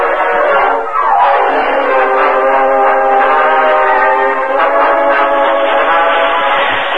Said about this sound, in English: Meanwhile, a short distance from Modoc City, Cliff Gunnison hurried through the empty passenger cars and joined Gopher in the engine cab of a speeding train.